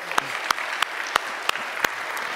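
A group claps steadily as thanks to the ladies who prepared food for the elders on their retreat, a dense wash of handclaps with a few sharper individual claps standing out at a regular pace, moderately loud.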